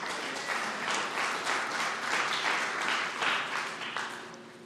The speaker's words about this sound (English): And those of you who've been set free, you can clap. And that's me too, if I were down there with you.